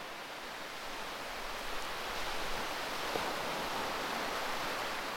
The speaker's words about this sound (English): Listen, it's now properly raining, so let's go back inside and then we'll pick up from there.